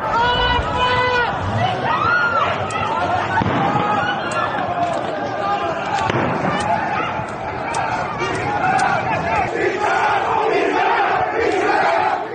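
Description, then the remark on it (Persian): A large crowd of protesters in the street shouts and chants slogans against Ayatollah Ali Khamenei during the Dey 1404 protests, in a dense, sustained roar of many voices, with sharp bursts and cracks punctuating the noise throughout. “این تصاویر نشان می‌دهد معترضان شعارهای علیه آیت الله علی خامنه ای سر می‌دهند”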